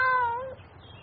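A single clear cat meow, with a tone that slides downward and fades after about half a second, leaving only quiet background.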